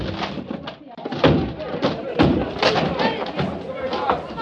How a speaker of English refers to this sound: All right, men, break down the door.